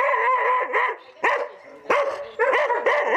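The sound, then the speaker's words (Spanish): Several dogs bark and yip in quick, overlapping bursts, loud and excited, with brief pauses between volleys and no talking; dogs at the entrance of a house used as a dog shelter, barking at people passing by. “en su entrada siempre hay varios de los perros que con solo ver pasar personas ladran.”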